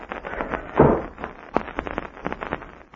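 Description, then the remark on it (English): A door is pushed shut behind someone leaving the room, a single solid thud near the start, followed by a series of light, quick knocks and scuffs, like someone moving about. “and shut the door behind you.”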